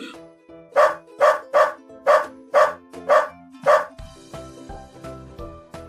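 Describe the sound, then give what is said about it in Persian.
A dog barks seven times in a quick, steady series, loud, over soft background music that carries on briefly after the barking stops. “بعد آقا سگ کلوچه شکلاتی رو دید. برگرد اینجا.”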